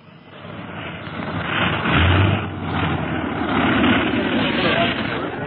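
A small airplane's engine roars steadily as it lands in a town square and taxis, a dense, rumbling drone with a low hum underneath that swells slightly and holds loud throughout.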